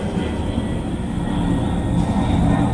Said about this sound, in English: I thought that aeroplane was going to come through the house. Wow, that's loud.